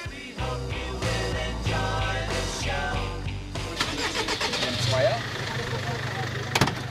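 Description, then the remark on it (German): The engine of a brightly painted tour bus rumbles at idle, then revs up and drones louder as the bus pulls away to start its morning tour, with faint voices in the background. “Nach dem Ende der Covid-19-Beschränkung setzt sich wieder jeden Morgen um 10 Uhr der bunt lackierte Bus in Bewegung.”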